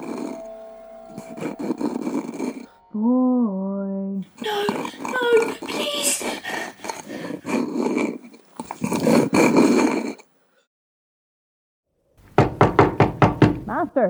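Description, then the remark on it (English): A quick run of sharp, loud knocks on a locked door comes after a brief silence, following earlier stretches of low grunting, growl-like vocal sounds and voices. “Who was there? Boy. No, the door is locked. You cannot enter.”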